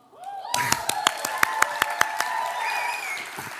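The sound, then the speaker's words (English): An audience claps together in a steady rhythm, about ten sharp, evenly spaced claps, in response to an announcement of the number of baptisms, with voices murmuring underneath that continue after the clapping stops. “And then we said 12, and then you all clapped.”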